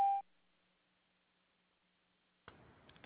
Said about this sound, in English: Begin speaking after the tone, then hang up when you are finished, or press any key for further options.